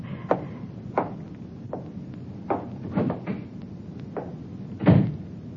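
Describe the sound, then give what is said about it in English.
A door being opened as someone leaves: a series of sharp clicks and wooden knocks at uneven intervals, ending in a heavier thud. No one speaks. “Close the door.”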